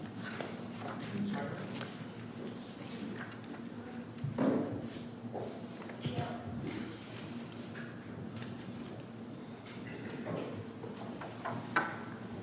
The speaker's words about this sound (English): Oh wait, I guess our guests are leaving, so let's just wait a minute for people to shuffle out the door. All right, I think they're quiet enough.